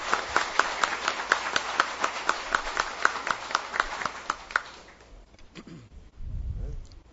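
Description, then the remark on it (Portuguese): Audience applause for a local honoree at a ceremony in Juara: crisp, distinct claps in a quick, fairly steady rhythm for about five seconds, then it stops, leaving quiet room noise and a low rumble at the end. “Vamos aplaudir.”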